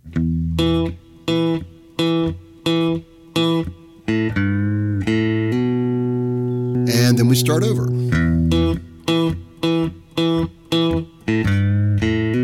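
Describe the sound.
An acoustic guitar plays riff number one, which makes up the bulk of the front end of the song, as a demonstration: short, choppy repeated notes, then a few notes left to ring out. A man speaks briefly before the same staccato pattern starts again.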